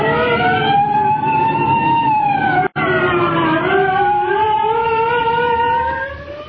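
State trooper police car sirens wail loudly and continuously as the troopers approach, their overlapping tones slowly rising and falling in pitch, broken by a split-second cut midway and easing off slightly at the end. No one speaks.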